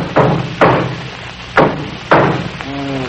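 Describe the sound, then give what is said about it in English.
Four loud hammer blows strike a car engine in an uneven rhythm, each a sharp metallic clang with a brief ringing decay, followed by a short murmur of voice at the end. “Let me try something else here with this hammer.”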